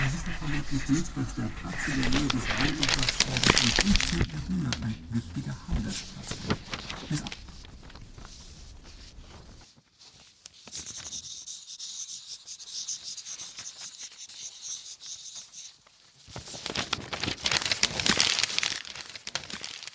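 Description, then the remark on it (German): A pen scratches steadily across paper, writing a letter to someone in prison, in continuous strokes with brief pauses and a quieter stretch in the middle. A faint murmur of voices sits underneath at the start. “Ach, ich wollte mal einen Brief in den Knast schreiben.”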